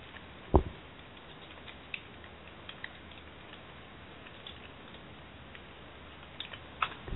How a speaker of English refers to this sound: I hear something typing. Yes, that would be me.